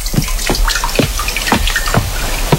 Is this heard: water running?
yes